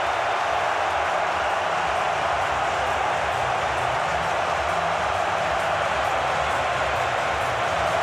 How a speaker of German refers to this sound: Wieder ein Distanztreffer! Es ist die Europameisterschaft aus der Entfernung und es ist das 1:1 für Dänemark gegen England. Und so klingt der Jubel.